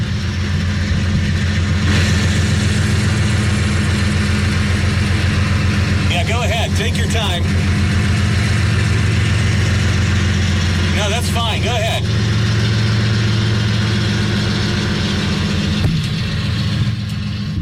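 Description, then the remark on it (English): A deep, throbbing diesel train engine that had been sitting idle for about an hour rumbles continuously, its low drone swelling slightly as it revs, while a person reads a weather forecast over it. “Showers and thunderstorms likely as the train decides to rev up right as I'm doing the weather.”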